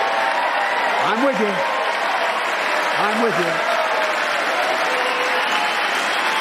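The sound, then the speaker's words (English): A crowd applauds steadily throughout, cheering the money coming in from the bipartisan infrastructure law, a dense, even wash of clapping, with two brief whooping cheers rising over it about two seconds apart. “And by the way, I noticed some of you strongly voted against it, or they're cheering on that money coming in.”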